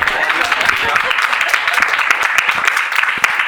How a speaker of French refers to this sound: Voilà, généralement ça vaut des applaudissements de fou dans délire.